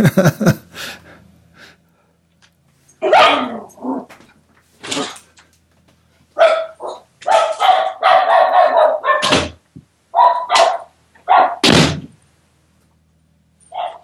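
A female dog barks repeatedly at people working on the house, in short, sharp bursts, some close together in quick runs, loud, with brief pauses between volleys and a few softer huffs or breaths.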